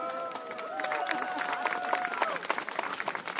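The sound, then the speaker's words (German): An audience breaks into applause, dense and steady clapping that builds and holds for a few seconds, with a few raised voices calling out over it at the start. “Applaus!”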